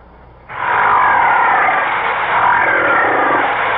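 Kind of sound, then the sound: animal, whale buzzing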